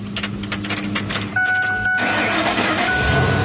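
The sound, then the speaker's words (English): A car running on pure hydrogen from a water electrolysis system developed in Buffalo, New York, cranks and catches, a steady mid-pitched rumble rising into a fuller running idle with a faint whine on top; no one speaks over it. “I'm just going to start it.”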